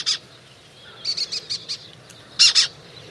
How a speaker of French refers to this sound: C'est un faucon cresserellette, un tout petit rapace qui vient de mettre à l'arrêt un grand parc d'éoliennes dans le sud de la France.